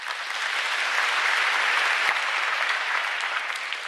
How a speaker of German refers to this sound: Vielen Dank auch nochmals für die schöne Musik und die Darbietung. Ich glaube, das ist nochmal einen extra Applaus wert.